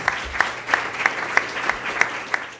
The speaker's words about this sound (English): So I think that concludes part one of today's event. So let's give our two panelists a round of applause.